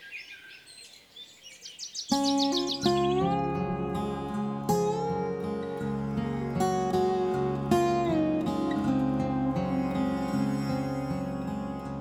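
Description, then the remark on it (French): Birds chirp and trill rapidly in the mountains for about two seconds on their own, then loud, sustained music swells in and takes over for the rest. “Tu observes les oiseaux et tu te dis que vraiment la montagne, c'est le paradis.”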